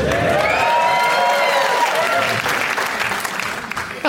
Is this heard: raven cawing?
no